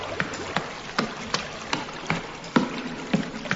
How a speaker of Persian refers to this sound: چجوری میشه جلو آبا گرفت؟